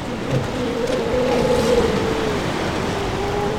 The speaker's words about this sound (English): See, they're adorable. Yeah. Listening to vocalize. It's almost like they're singing. We cut the engine again and we drift. And before long, we can hear it. Seal songs.